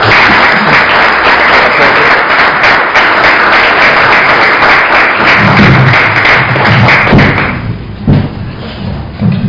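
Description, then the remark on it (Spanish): Loud, sustained applause from an audience welcoming a speaker to give a talk, a dense wash of clapping that continues steadily for several seconds before thinning out toward the end, with a few low thumps mixed in. “Y así que lo invitamos a usted con un fuerte aplauso y muchas gracias.”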